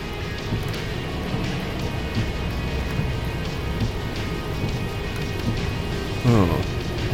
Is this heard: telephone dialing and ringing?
no